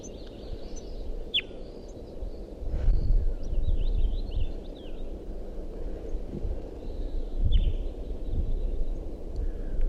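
Type 2 crossbill nestlings' begging calls from a nest tree at about 6:09 a.m., thin high chirps and short rising squeaks repeated irregularly and faintly over a steady low rumble, with no voices.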